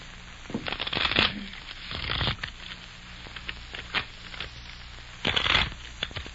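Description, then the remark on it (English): Riffle shuffling of a deck of playing cards: three quick fluttering bursts with brief pauses between them, plus a few light taps and clicks as the deck is squared up. No talking. “Hey, I thought I told you not to shuffle.”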